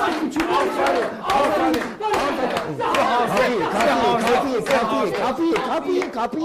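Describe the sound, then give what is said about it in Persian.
An audience claps and cheers together, with a steady patter of handclaps running under a loud mix of excited voices shouting and chattering for several seconds. “باریکلا تشویق کنید.”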